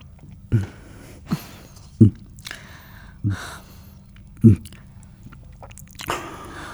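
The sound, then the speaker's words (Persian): Soft swallowing sounds as a son drinks some water: about six wet gulps spaced unevenly over several seconds, with faint breaths between them and no voices. “یکم آب بخور بسرم.”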